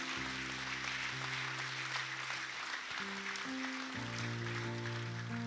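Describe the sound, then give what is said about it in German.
A crowd at a worship service claps steadily throughout, a dense wash of applause that stays loud for several seconds, with sustained organ or keyboard chords playing underneath. “Gib dir mal einen Applaus, die alle sich heute entschieden haben, diesen mutigen Schritt zu tun.”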